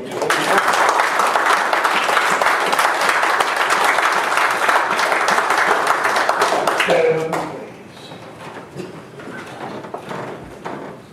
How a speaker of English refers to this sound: He is the way. He is the truth. He is the life. Give Jesus the greatest hand of applause this morning.